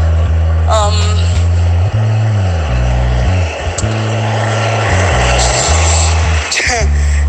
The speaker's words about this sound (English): I just waited for that car to just pass by.